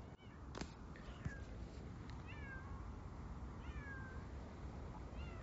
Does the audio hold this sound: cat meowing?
yes